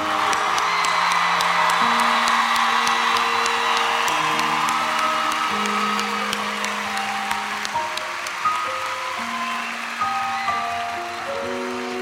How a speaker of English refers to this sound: And I want everyone to give a round of applause. So give it up for them again, please.